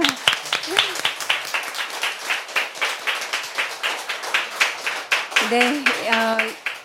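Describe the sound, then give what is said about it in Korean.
Sustained applause for a professor after a lecture on the final goal of the humanities, a dense, steady patter of many hands clapping for several seconds, with a few voices briefly rising over it near the end. “기운 나시게 박수 한번 드릴까요?”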